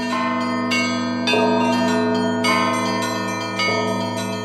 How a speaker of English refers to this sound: That was Konstantin Stade ringing Holy Trinity's bells. He's kind of a big deal in the world of Orthodox bells, and he helped Holy Trinity change their bells to a more traditional setup in 2018.